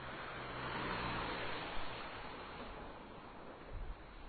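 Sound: car passing on street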